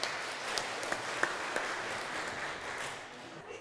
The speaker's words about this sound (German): Na, oh, wow, das hat einen Applaus verdient.